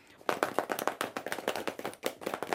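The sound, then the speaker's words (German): Pencils held in hand drum on pencil cases resting on knees, used as drums for a rhythmic accompaniment, in a quick, fairly steady series of sharp tapping hits, many overlapping, like a group keeping an uneven rhythm, with a brief pause near the end. “Nehmt euch doch mal alle Stifte in die Hand und legt euer Federmäppchen auf die Knie.”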